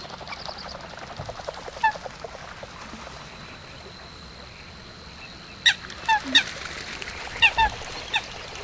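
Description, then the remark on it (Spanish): Coots trumpet and mallard and pochard hens quack and splash, protecting their chicks, on a wide sheet of still water on a spring morning, heard from a flat-bottomed boat pushed by a pole. The sharp trumpeting notes and short quacks arrive in scattered bursts, clearer toward the end, over a low steady background murmur. “Varias fochas trompetean mientras las hembras de Ana de Azulón y Pato Colorado graznan y chapotean protegiendo a sus crías.”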